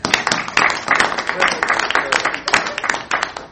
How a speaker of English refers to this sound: I think the mere fact that he's here and with us probably deserves a really nice round of applause.